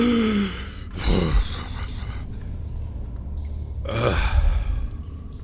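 heavy panting

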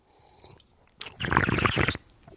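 sipping wine

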